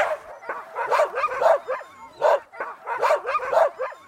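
A chorus of about forty dogs barking and yipping at once, dense overlapping high-pitched yelps and barks in repeated loud bursts, with no voices.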